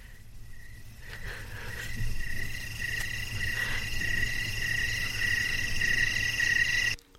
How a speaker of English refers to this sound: I might just play you some of our night crickets.